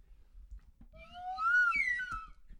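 A slide whistle plays a single sweeping tone that glides upward and wavers, moderately loud and close, with a few soft thumps and handling knocks around it.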